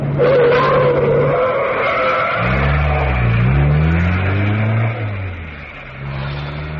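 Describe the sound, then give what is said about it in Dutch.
A car deliberately swerves and skids past, trying to cut another car off into a shop window, tires squealing loudly as the engine roars and shifts in pitch, with a low rumbling sweep that fades slightly at the end. “Hij probeerde ons zo die etalage in te snijden.”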